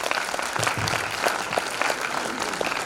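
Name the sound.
audience applause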